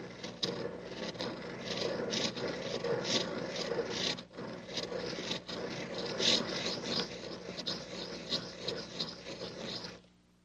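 A pencil sharpener, its cover left off, shaves the wood off a pencil to make a point, grinding steadily for about ten seconds, a continuous raspy scraping with quick rhythmic pulses, then stops abruptly.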